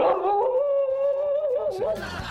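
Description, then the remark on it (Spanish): A dog lets out one long, steady howl that wavers slightly in pitch, loud, rising at the start and breaking up near the end. “Teníamos los perros, no, bravo, los perros, bravo, complicado.”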